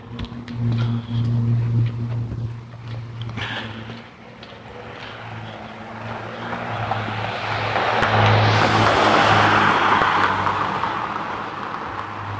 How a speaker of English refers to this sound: And there's the car.